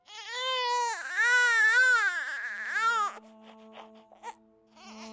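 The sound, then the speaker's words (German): A newborn baby cries loudly right after birth in strained, rising-and-falling wails for about three seconds, then quieter whimpering and faint sounds follow. “Bereits unsere erste Lebensäußerung, der Schrei gleich nach der Geburt, wäre nicht möglich ohne dieses knorpelige Gebilde zwischen Rachenraum und Luftröhre.”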